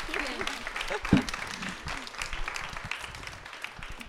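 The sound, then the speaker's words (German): An audience applauds the guests as they leave the stage, a dense patter of many hands clapping steadily throughout, with a brief louder burst early on and faint voices mixed in beneath the clapping. “Das ist jetzt euer Applaus.”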